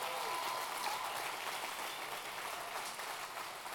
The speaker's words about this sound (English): So if you would you guys honor them with me for just a moment and give them a round of applause?